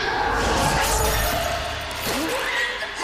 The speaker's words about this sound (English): A hand lashes out, smashing the camera into his face.